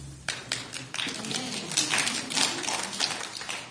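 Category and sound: crowd, audience clapping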